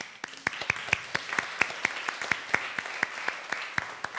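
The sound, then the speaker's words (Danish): An audience at a church service claps again for a story that was told, steadily for about four seconds, a dense patter of many hands with sharper individual claps standing out in a fairly even rhythm. No one speaks over it. “Jeg synes faktisk, det er så god en historie, jeg godt vil klappe af den en gang til.”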